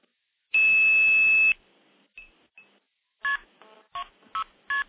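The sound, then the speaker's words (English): A loud, sustained telephone tone sounds first, then a short pause with faint blips, followed by a rapid series of five or six brief dialing tones pulsing in quick succession. KP2602 start is dialed on the terminating side to get a dial tone, then the phone's touch tone pad is used to stack trunks. “So I'm going to dial KP2602 start, and that'll give me a dial tone.”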